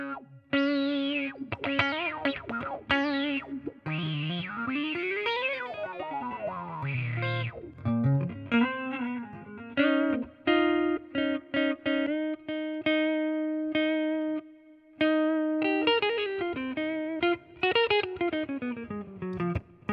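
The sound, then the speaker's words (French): A run of electronic, pitch-shifted sound effects: warbling tones sweep up and down, then settle into held buzzy notes broken by quick stutters, all loud and continuous with no voices. “Essayer de voir ce que ça donne si jamais on change les pitchs.”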